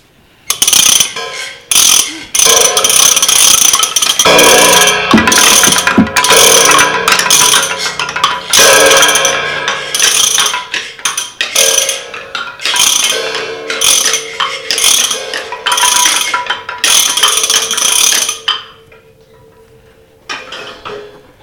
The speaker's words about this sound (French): En face de chez moi, un étrange chantier a commencé. Un beau matin, des bulldozers sont arrivés. Des grues, des pelleteuses et des camions.